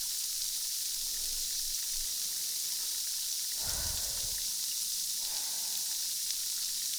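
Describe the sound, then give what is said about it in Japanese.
Close, steady fizzing of carbonated water poured near the ear, its foam bubbles crackling and popping right by the ear, a dense bright hiss with one fuller burst of fizz midway, no voices. “シュワワーって耳元で泡がいっぱい割れて気持ちよくなれますね。”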